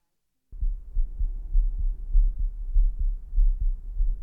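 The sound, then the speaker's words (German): After a moment of silence, a fast, steady heartbeat begins: low, muffled thumps repeating in a quick, even rhythm, fairly loud, with no voices. “Eine zufällige Sammlung halber Menschen oder Tiere, die den Kameras ihren Herzschlag überlassen.”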